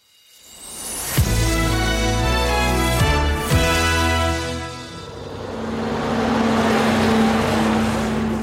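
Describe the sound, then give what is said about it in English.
A gritting lorry rumbles past at 6:05 on a June morning in Howick, Scotland, during the Common Riding. Its loud engine drones with a few sharp clunks, then eases into a steadier low hum as it moves on. No one speaks. “It's 6:05 on a June morning, and that's the gritting lorry just gone past.”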